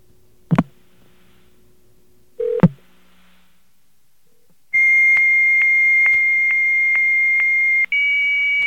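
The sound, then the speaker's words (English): High-speed 9600 baud modem handshake: two sharp clicks, then a loud steady high-pitched tone punctuated by regular clicks about twice a second, shifting to a slightly different pitch near the end. “Yeah, but you'll know right away if you hear this that this is a high-speed modem.”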